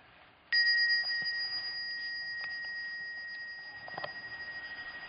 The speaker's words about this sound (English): After the 10 minutes meditation, I will ring the bell again. So after that, you can slowly and mindfully come out of the meditation.